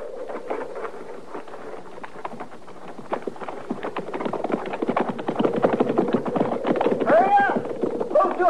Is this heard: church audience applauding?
no